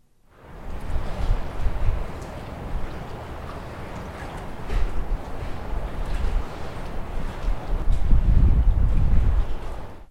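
Water slaps against dock pilings in irregular, hollow, almost echoey surges, with heavier low thumps building toward the end over a steady rush of wind-like noise, recorded standing on a dock out over the water. No one speaks.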